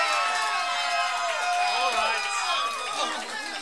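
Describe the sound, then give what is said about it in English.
An audience of many voices screams and hollers at once, a steady, loud wall of overlapping cries and calls with no pauses across the few seconds. “I've twisted some arms, folks, and I know the audience is all out in the boonies out there just screaming and hollering.”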